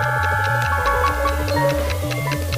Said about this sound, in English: The ticks of a watch put time markers on the sweep, 5 to the second.